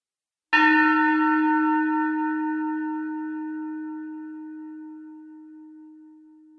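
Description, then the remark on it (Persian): A small bell is struck once for a listening game, ringing out clearly with a sustained, shimmering tone that slowly fades over several seconds. No voices, just the single ring decaying into quiet. “پس تا انتهای صدا صبر کنید و بعد دستتون رو بالا بیارید. منم همراه شما دستم بالا میارم. آماده اید؟ بذارید من زنگوله رو بیارم.”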